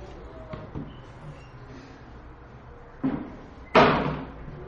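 A door is pushed shut in a quiet room: a soft bump, then a firm, loud slam that rings out briefly before settling. No one speaks.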